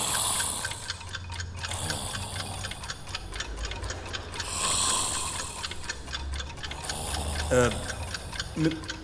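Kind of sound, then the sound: household object, alarm clock ticking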